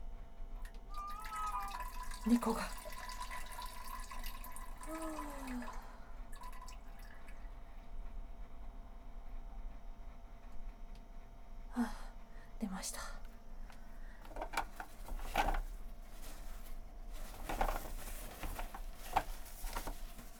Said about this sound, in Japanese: 今回はおしっこは求められてなかったんですけど、したくなったのでします。